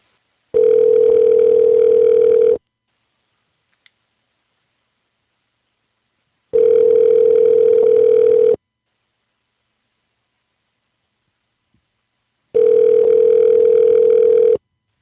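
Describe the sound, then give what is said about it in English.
A car dealer's phone line rings out unanswered: three steady, buzzy ringback tones, each lasting about two seconds, separated by long silent pauses, with no voices. “This dealer's not even answering their damn phone.”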